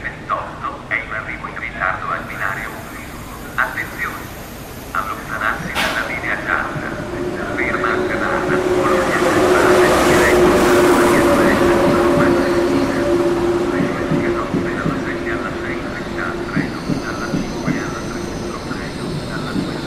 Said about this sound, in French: États-Unis, métro, ligne N, New York.